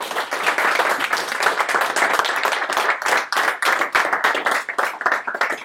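Steady audience applause, many hands clapping in a dense, continuous patter that stays loud and even for several seconds with no voices over it.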